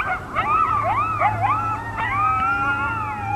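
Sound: coyote howling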